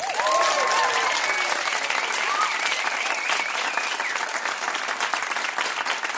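Sustained warm applause from an audience at the Musikplats Stockholm live stage, welcoming a returning artist performing live on air, dense and steady throughout, with a few cheers and whoops rising above the clapping early on.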